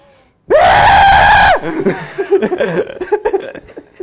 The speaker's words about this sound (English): You're going to make us die if you keep screaming like that.